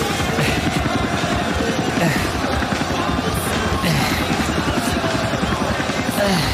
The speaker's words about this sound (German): Holy shit! Ein fucking Helikopter!